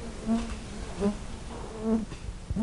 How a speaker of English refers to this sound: The place is beautiful, but rugged. Mosquitoes and deer flies swarm to any patch of exposed skin.